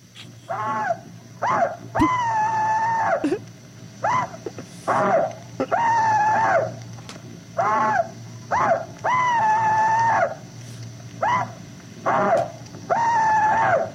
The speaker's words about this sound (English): All right, I got the clip of the Rebel Yell. Are you ready? Yes. Here goes nothing. Now, here is one Confederate veteran's rebel yell.